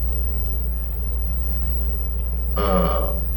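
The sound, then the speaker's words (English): A voice imitates the croaking noise of an animal that stays around ponds: a single short, raspy croak near the end, low and guttural like a belch, over a steady low rumble of engine noise that runs throughout. “Well, what about, you know, this animal that stays around ponds and makes his croaking noise?”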